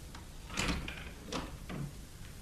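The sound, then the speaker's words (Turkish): A door is opened with a few short clattering knocks and a brief creak-like scrape, moderately loud, with no one speaking. “Acaba kapıyı açınca kocama gülümseyebilir miyim? Açın.”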